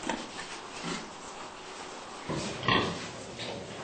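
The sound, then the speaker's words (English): Pigs grunt and snuffle in a barren farm unit with no bedding or nesting material and a living space just 17 inches wide, with a steady background hum and a louder cluster of grunts near the end. No one speaks. “Given the chance, pigs build large, soft nests for them and their piglets.”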